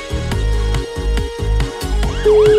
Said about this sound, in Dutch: Eerste hulp bij ontlezing. Blijft toch vet, hè, die jingle? Ja. Echt een goede jingle is het.